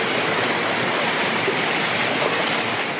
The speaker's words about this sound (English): Rain poured down in Santiago de Cuba from Melissa.